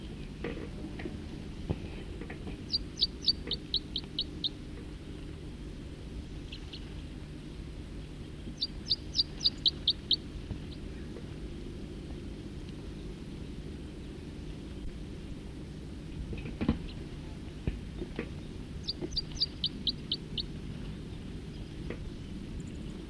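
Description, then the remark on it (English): Songbirds sing while fighting, in three short bursts of quick, high trilling notes spaced several seconds apart, with a few sharper chirps between, all over a steady low rumbling drone. “Oh, there's a fight now. The songster's in a fight.”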